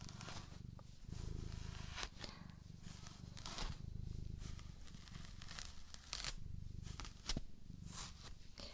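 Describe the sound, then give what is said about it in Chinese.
Scratchy brush strokes sweep through a long-haired cat's fur to comb out loose hair, at an irregular pace, each a short rasping swish, over a low, steady rumble like a cat purring. No one speaks. “就是要把毛毛都梳开的哦。”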